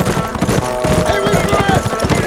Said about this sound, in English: As the hoofbeats of their departing horses roused the sleeping townies, Hoyt heard Fortson yelling behind him, exhorting the men to get up and get on their horses.